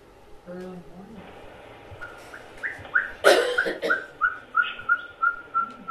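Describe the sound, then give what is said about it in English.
An owl gives a steady series of short, whistled hoots at night, about ten evenly spaced notes, clear, with a brief louder call partway through and a faint murmur of background noise. “We did see both of these owls.”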